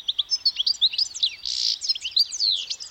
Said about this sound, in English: The source of Vivaldi's inspiration? The European goldfinch. It's a tiny bird found throughout much of Europe, where it frequents gardens and roadsides.